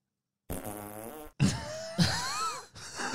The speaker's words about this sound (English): You tell me what his fart sounded like. You think it was like A? No. All right. B? Keep going. C? What's the loudest one, dude? Yes.